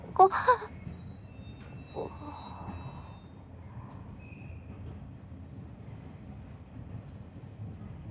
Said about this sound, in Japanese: 列車が減速しています。